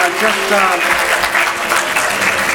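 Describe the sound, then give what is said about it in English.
An audience applauds its song leaders in a steady, dense burst of clapping that holds a loud, even level for the whole stretch, with a faint murmur of voices mixed into the noise. “applause for our great song leaders again.”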